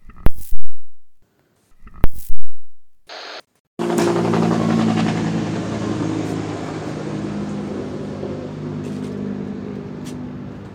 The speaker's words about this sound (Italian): È appena passato un elicottero.